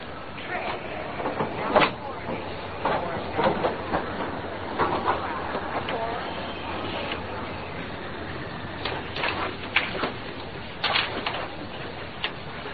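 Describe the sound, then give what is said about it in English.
A train pulls into a busy station, with a steady rumble, scattered metallic clanks and clatter, and a faint murmur of people boarding in the background. “Come on, or we'll miss the train.”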